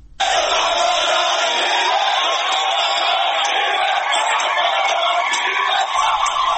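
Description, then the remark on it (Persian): A large crowd of Khuzestani tribespeople shouts and chants slogans in Arabic in a loud, continuous roar of many voices, sustained from start to finish with no pauses, at a protest in Abadan, Iran, warning government forces about shooting at people. “بنابر گزارش ها در شبکه‌های اجتماعی، عشایر خوزستانی با سر دادن شعارهایی به زبان عربی به نیروهای حکومتی درباره تیراندازی به مردم هشدار دادند.”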